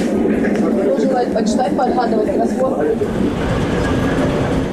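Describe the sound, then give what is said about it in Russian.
A three-carriage passenger train, which runs once a day in eastern Ukraine to the non-government-controlled part of Donetsk region, rolls along the rails with a loud, steady rumble and rattle from inside the carriage, while people's indistinct chatter runs underneath. “Поезд «Луганский» осиноватый, а для многих местных жителей единственный способ дешево и быстро добраться в неподконтрольную часть Донецкой области.”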